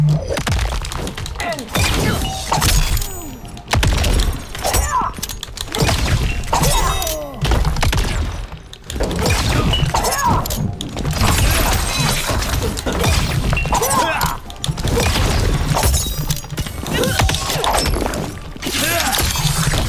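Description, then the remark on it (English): Video game ice-shattering fatality effects as ice daggers are thrown through a victim's chest, then the chest is skewered with icy knives: loud bursts of crashing and shattering, with heavy thuds and smacks, repeating in dense waves for the whole stretch with only brief gaps. “Frost lobs ice daggers through the victim's chest, then leaps to skewer their chest with icy knives.”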